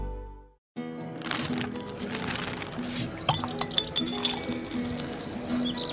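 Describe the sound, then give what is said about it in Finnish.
Glasses clink together in the first toast of summer, several bright chinks around the middle, over a low steady background hum and faint murmuring. “Kyllä, kesän ensimmäinen kippis.”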